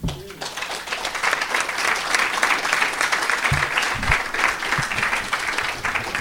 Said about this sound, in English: Could we give another big round of applause for all of the three speakers, please?